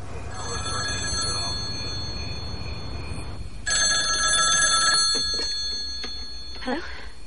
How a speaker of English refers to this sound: Later, Annie's awoken by her motel room phone.